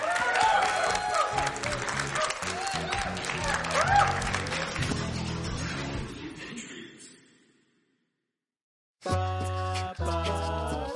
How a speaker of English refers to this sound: All right, a big round of applause. Deion Lewis, he made it through Totally Challenged.